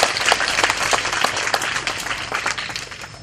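An audience at a monk's talk bursts into a round of applause for a six-year-old child, many hands clapping in a dense, steady patter for a few seconds without pause.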